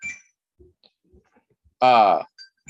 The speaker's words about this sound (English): So you do have to, in this house, you have to deal with the fact that you hear sea lions barking always. And it hits against the cliffs and everything, so there's lots of echoing.